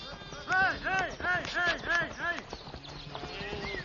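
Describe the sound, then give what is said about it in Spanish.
Hooves of Gotland sheep trot steadily across the ground in a protected national park at the Müritzhof, a few kilometres from Warren, in a quick, rhythmic clip-clop, clear, while a person speaks over the footfalls. “Invadir este entorno natural protegido es un privilegio especial de estas ovejas de Gotland.”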